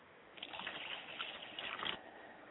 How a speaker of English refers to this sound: We would like to pour libations to my father's spirit, and that is Obatala.